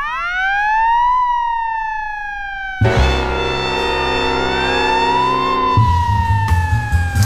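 A police siren wails loudly, its pitch sweeping up and slowly down, soon joined by a heavy low engine rumble as the vehicle passes.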